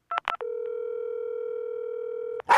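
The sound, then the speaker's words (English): A few quick keypad beeps, then a steady, unbroken telephone dial tone hums for about two seconds before cutting off with a sharp click. No one speaks. “And I'm going to play a phone call”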